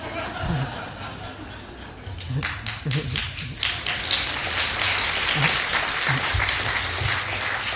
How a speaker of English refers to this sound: You know, you think, okay, they clapped a little bit.